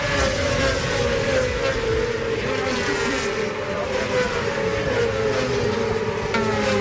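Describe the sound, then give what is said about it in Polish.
Racing motorcycles roar past on the Tor Poznań track in Poznań, Poland, during the second round of the Polish motorcycle racing championship, engines whining at high revs in a steady, loud drone that rises and shifts as bikes sweep by, with crowd or ambient noise underneath. “a teraz przeniesiemy się na samochodowy tor Poznań. Tym razem ścigały się tam motocykle.”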